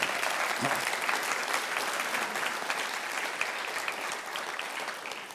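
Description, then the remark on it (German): An audience applauds steadily for about five seconds, a dense wash of many hands clapping at an even, sustained level with no talking on top. “Genau, wir können durchaus einen Applaus mal geben für die.”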